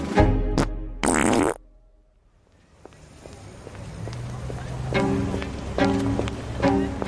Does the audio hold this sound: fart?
yes